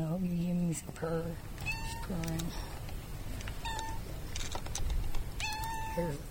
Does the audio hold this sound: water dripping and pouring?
no